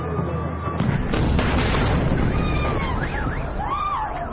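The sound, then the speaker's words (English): An Israeli missile strike explosion just meters from a home erupts as a heavy, sustained roar of booming rumble that fills the whole clip, with faint wavering high tones rising and falling over the din. “A glimpse of what it's like when an Israeli missile hits just meters from your home.”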